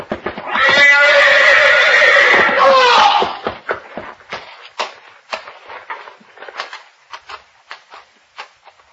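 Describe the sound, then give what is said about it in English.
A horse in a stall lets out a loud, drawn-out whinny lasting a few seconds, followed by a series of sharp, scattered, irregular thumps and stamps of hooves as it threatens to trample a man. “Grab the horse, Novak. He's going to trample him.”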